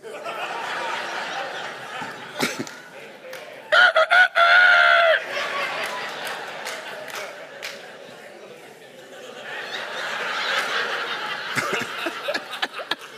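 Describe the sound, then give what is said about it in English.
A man imitates a rooster crowing with one loud, drawn-out cock-a-doodle-doo call, set against noisy chatter and scattered laughter. “Go ahead, call me henpecked, and I crow for you.”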